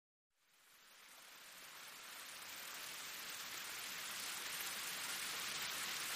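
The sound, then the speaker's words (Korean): Steady rain falls after a brief silence, a dense hiss of drops that swells in quickly and holds evenly, fairly loud, with no voices. “빗소리가 내 분노를 일깨우듯 그녀의 기억을 다시 깨웠다.”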